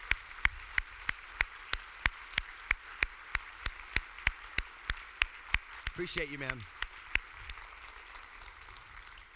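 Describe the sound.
Applause with sharp, evenly spaced claps ringing out at a steady beat, about four per second, over a constant wash of noise; a man's voice briefly cuts in partway through.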